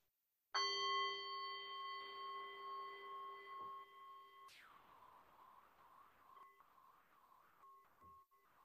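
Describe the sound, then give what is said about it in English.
A meditation bell is struck twice, each strike ringing out with a clear, sustained shimmering tone that slowly fades, with no talking. “Listening to the sound of the bell.”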